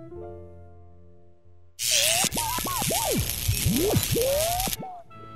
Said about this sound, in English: Thanks, but they're already in the dishwasher. Is your dishwasher on? Yes, it is. I can't believe it. Your dishwasher is much quieter than mine. It's new.